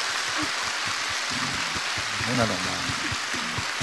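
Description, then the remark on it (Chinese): An audience claps steadily, a dense, crackling wash of many hands that holds for several seconds while a voice speaks briefly over it. “十指连心，多鼓鼓掌，红了，血脉通了，脑子也会清楚的。”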